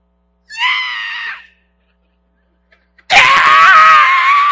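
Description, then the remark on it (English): A voice mimics a toddler's tantrum, as when something is pulled away from a toddler: a short, high wavering squeal, a pause, then a loud, raspy, sustained scream that runs on to the end, with no talking. “You couldn't even speak a word and they try to pull it from you and you scream your head off, turn colors you shouldn't be.”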